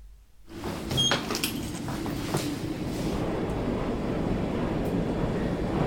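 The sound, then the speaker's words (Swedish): A high-speed elevator ascends at about 5 metres per second to floor 54 of the tallest residential building in the Nordic countries, in Malmö: a few sharp mechanical clicks and rattles at the start, then a steady, loud low rumble with airy whooshing that holds evenly to the end. No voices. “5 meter i sekunden är ungefär hissarna.”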